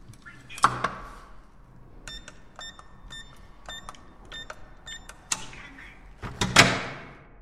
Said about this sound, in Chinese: 明明家门就在眼前，但是却紧张的不敢打开。没事，既然决定了偷偷回来，给弟弟一个惊喜，那就早让他迎接惊喜的准备吧。开门吧。